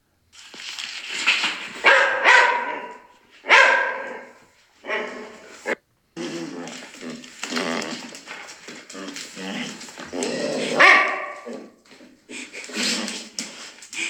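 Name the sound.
dog barking and whimpering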